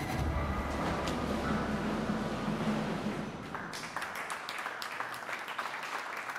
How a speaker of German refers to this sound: Applaus für Daimlers ersten Brennstoffzellen-Lkw, im September vorgestellt im Beisein des Bundesverkehrsministers.